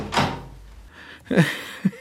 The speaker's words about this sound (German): denn der Aufzug hielt jetzt im siebten Stock und die Tür ging auf.